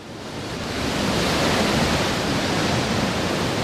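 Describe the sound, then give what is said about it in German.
The Rhine Falls in Switzerland, Europe's largest waterfall, roars steadily with hundreds of thousands of litres of foaming water per second: a dense, unbroken wash of rushing water that swells slightly at the start and then holds loud throughout, with no voices. “Hunderttausende von Litern schäumendes Wasser Sekunde für Sekunde. Der größte Wasserfall Europas gehört zu den größten Tourismusmagneten der Schweiz.”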